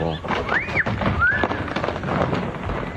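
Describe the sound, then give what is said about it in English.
Ancient boulders, toppled off a cliff by two men, crash and tumble down in a steady, loud rumble of thuds and clatter, with two brief rising-and-falling whistle-like cries cutting through early on; red rock formations in Lake Mead National Recreation Area outside Las Vegas. “The two men continue to chip away as they watch the boulders go crashing.”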